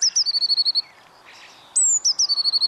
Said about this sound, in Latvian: Ja mēs sakām, pilsētā var dzirdēt zīlīti, tad mēs runājam par lielo. Dzirdēt mēs lielākoties dzirdam, jā, lielo zīlīti, bet tai pašā laikā noteikti tie, kas uzmanīgi klausās, dzirdēs arī zilzīlīti, arī pilsētas centrā, tai skaitā.